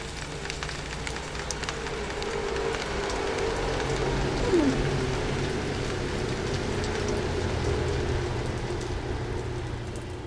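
Steady rain falls continuously on the west coast of British Columbia, Canada, a dense crackling patter of drops on surfaces with a low, constant rumble underneath; fairly loud, with no voices.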